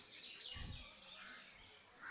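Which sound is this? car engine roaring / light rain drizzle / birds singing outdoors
birds singing outdoors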